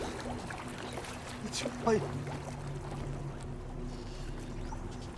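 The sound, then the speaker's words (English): Cold water sloshes and laps steadily, as if someone is moving through it, with one sharper splash partway through over a constant low wash. “Oh, God, you have no idea how cold this water is!”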